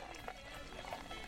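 A steady, bubbly splash of a drink with a foam head pouring into a glass, continuous, with a faint fizzing hiss running throughout.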